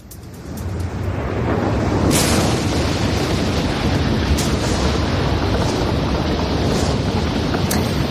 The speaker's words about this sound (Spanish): Sonidos contundentes, sonidos que dan miedo. Podría ser una gran tormenta, ¿verdad? Esto, pero en realidad es el sonido de un volcán en erupción, ¿no? Un sonido que, bueno, pues como digo, asusta